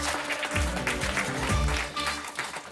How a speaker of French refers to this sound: Merci d'applaudir comme il se doit, Alison Paradis et Guillaume Santou.